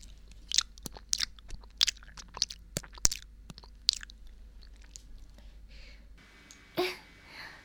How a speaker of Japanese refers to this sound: もう一回噛んで。ああ、身がコリコリしてる。もう、普通に咀嚼しちゃうね。